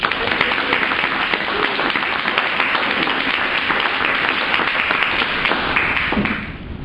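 A crowd applauds steadily, many hands clapping in a dense, even wash of sound that holds for several seconds before tapering off at the end.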